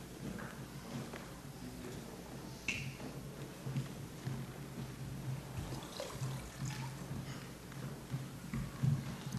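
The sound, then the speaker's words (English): Water from a kitchen faucet pours and splashes steadily for several seconds, a continuous, moderately quiet liquid sound with small gurgles and drips, and no voices. “And the water's from my kitchen faucet where I make my coffee every morning.”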